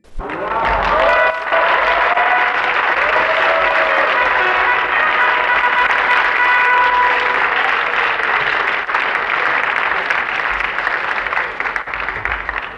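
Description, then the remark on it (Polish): Sustained applause from a large audience fills a theatre at the Golden Masks (Złote Maski) regional theatre awards ceremony, dense steady clapping for about thirteen seconds with faint cheers or voices mixed in. “Dziękuję ogromnie za te brawa.”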